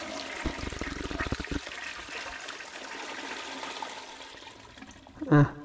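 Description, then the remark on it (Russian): A toilet flushes, a steady rushing, gurgling wash of water lasting several seconds, ending with a short, loud vocal burst. “Держитесь свои штаны, сливайте воду. Мы сейчас начнём.”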